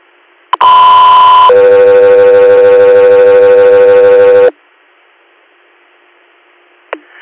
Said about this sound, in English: Helicopter here, standby for tone.